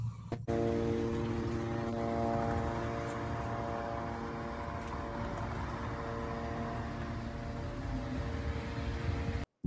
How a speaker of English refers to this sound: So that constant sound is over the city of Beirut, and it's an Israeli surveillance drone. It's hard to pick out in the sky, but it's 24/7, and it's really, really interesting.